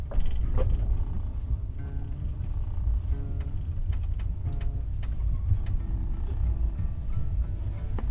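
Steady low rumble inside a moving SNCF train carriage, with scattered light clicks and creaks over a constant drone. No one speaks.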